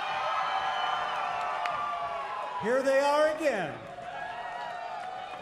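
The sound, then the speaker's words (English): A large crowd at the Ridgeway Summer Concert Series, broadcast live on KVNS, cheers, whistles and claps steadily for an encore while the mayor encourages them from the stage, with a loud rising whoop cutting through midway; a man speaks briefly over the din. “And Mayor … of Ridgeway is on the stage encouraging the crowd to keep up the noise.”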